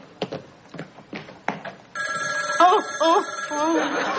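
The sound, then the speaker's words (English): A telephone starts ringing about halfway through, a loud, steady electronic trill that carries on to the end, with a voice briefly over it. A few short, sharp bursts come before the ring. “It's just the phone.”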